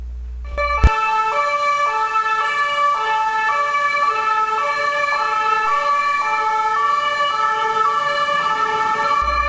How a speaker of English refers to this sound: It took Richie all of 10 seconds in the City of Paris to tell me it was the City of Sirens, which is one of those iconic things that Paris is known for.